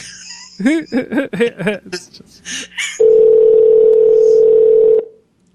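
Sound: telephone dialing and ringing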